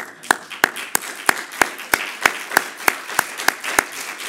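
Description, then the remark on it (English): Thin, weak applause from an audience: about a dozen sharp claps at a steady, even beat over a soft wash of scattered background clapping, with no voices. “You know, I've been in stadiums when somebody's got 4,000 hits and got more clapping than that.”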